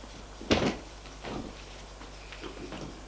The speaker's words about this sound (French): La porte s'ouvre. C'est sa mère.